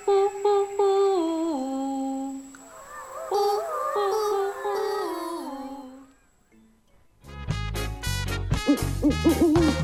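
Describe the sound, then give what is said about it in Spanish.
Owl hooting: a series of drawn-out hoots that step downward in pitch, followed by a busier stretch of overlapping calls, a brief lull, then a louder, denser burst near the end. “Ahí está, ululando.”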